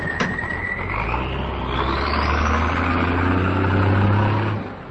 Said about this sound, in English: Not long after dawn, about 100 Lebanese army trucks rolled across a temporary bridge over the Litani River, heading south toward the border. They bore Lebanese flags fluttering in the wind.